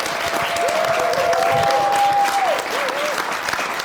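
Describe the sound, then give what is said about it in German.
An audience claps steadily for about four seconds as the host introduces a member of the camera and sound crew, a dense wash of applause with a faint whistle-like tone rising and falling over it. “Ein Applaus”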